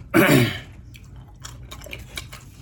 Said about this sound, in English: All right, I'm just some cashews over here. Chewing these nuts like a cheap whore.